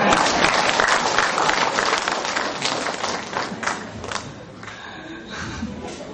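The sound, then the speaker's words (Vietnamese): A crowd of Buddhists breaks into applause for an elderly man invited to stand: dense and steady clapping with some cheering mixed in, loud at first and gradually thinning out toward the end. “Đây là một người rất là lạc quan, xin cho ông tràn pháo tay.”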